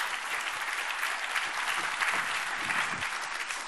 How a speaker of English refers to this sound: So good on you. Clap yourself.